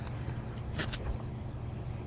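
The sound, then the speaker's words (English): A big green garbage truck idles outside with a steady low engine rumble, broken by two quick hissing bursts partway through, as garbage workers work at the curb. Nobody speaks. “That noise. You want to look out the window? See those garbage guys?”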